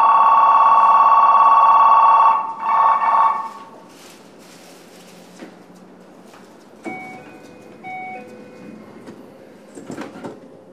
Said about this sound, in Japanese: 番線ドアが閉まります。